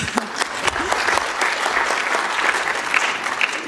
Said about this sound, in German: Wir dürfen auch für jeden mal klatschen.